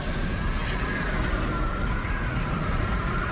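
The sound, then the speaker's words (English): Steady acid rain falls continuously, a dense hiss of drops spread evenly across the whole stretch, moderately loud with no voices; sulfur dioxide from the Siberian volcanic eruptions turns to sulfuric acid as it rains. “As it rains, the gas turns to sulfuric acid and burns everything it falls on.”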